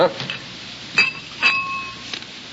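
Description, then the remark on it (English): Glass clinking as a glass of sherry is served for dinner: a few light taps spaced irregularly, two of them ringing out briefly with a clear bright tone, against quiet background noise. “How about a glass of sherry for dinner?”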